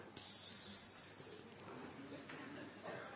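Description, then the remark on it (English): A voice imitates the hiss of snakes on the ground in a jungle: a steady, airy hiss lasting about a second, moderately loud, then fading into low murmuring background noise. “Here in the jungle, all of a sudden you hear psss on the ground, snakes.”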